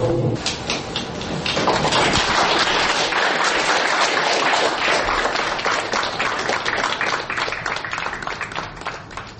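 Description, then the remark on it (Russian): A roomful of people applauding after a screening of the film "Our Hope" (Nasha Nadezhda) in Moscow, a dense, steady wash of clapping that stays loud for several seconds before thinning slightly toward the end. “Люди только что хлопали и сейчас подписывают открытки Надежде Савченко”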